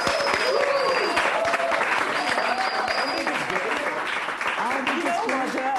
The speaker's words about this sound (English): Before we get started, let's take a moment to applaud yourself for the achievements you've made so far.